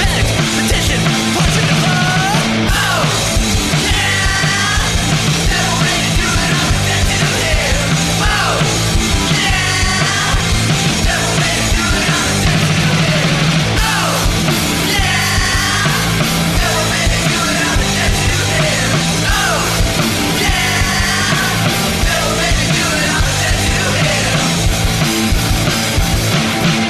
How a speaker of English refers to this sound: He's screaming and disco beats. 200 beats per minute